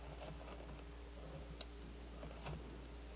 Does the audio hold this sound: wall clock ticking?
yes